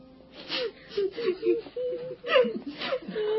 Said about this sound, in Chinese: 彼得到了约帕，好多可怜的寡妇站在他身边哭，并且拿多加在世的时候为他们做的衣服给他看。